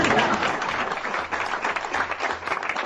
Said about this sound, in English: On the campaign trail in Iowa, Republican presidential candidate Fred Thompson finished a speech and heard, well, silence. He had to do a little prompting. First of all, could I have a round of applause?